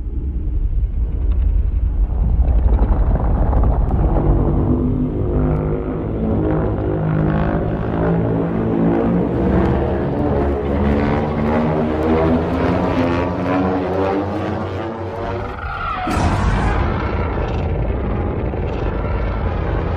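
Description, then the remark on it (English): Godzilla's atomic breath charging up in a film's sound design: a loud, deep roaring rumble with layered whining tones that steadily climb in pitch for about fifteen seconds, then break into a harsher, brighter blast. “I love the sound design in this film. The charge-up for this Godzilla.”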